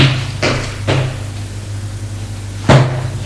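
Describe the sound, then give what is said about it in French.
A small cabinet door is opened by a man with a clunk, with two soft knocks close together followed by a sharper, louder thud, all over a steady low background hum. “Il voit un homme, plutôt une grande ombre, qui a ouvert la porte du petit meuble et le sort.”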